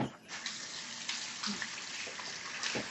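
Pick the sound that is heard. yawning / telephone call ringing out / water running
water running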